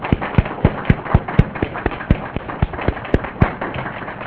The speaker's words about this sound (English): And I would like to use the opportunity of having the last talk to thank all the organizers. I think maybe we could all clap. This has been a terrific conference.